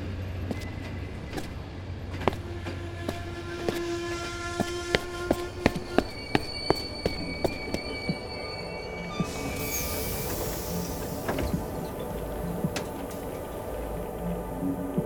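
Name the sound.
train interior rumble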